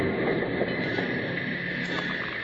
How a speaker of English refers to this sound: the train from St. Louis arrived at the Eagle's Nest station. Bill, Jingles, and Packer watched it come to a stop